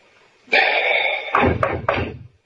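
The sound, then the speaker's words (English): Three firm knocks on a door in quick succession, fairly loud, following a steady droning sound that fades as the knocking begins. “Okay, knock.”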